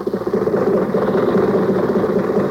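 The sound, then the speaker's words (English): Jack Benny's old Maxwell car chugs along steadily with Jack and Rochester on the way to the Santa Anita races, a continuous low, rough engine rumble with a faint knocking texture and no voices, holding an even loudness for the whole stretch. “So let's go back and pick up Jack and Rochester in the car.”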